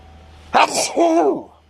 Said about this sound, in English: Oh, sneeze. I'm allergic to something in here.